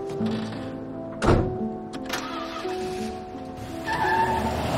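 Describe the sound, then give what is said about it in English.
A vehicle door shuts with a solid thunk over a steady idling engine, followed by a lighter knock, then the engine revs up as the truck pulls away. “She watches as he drives away.”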